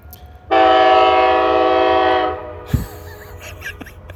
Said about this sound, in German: Unüberhörbar, der Zug kommt. Ich finde das, okay, das hört sich jetzt vielleicht ein bisschen simpel an, aber ich finde das einfach nur geil. Das ist ein unglaublicher Sound. Dieses wirklich tiefe, unüberhörbare Tuten vom Zug.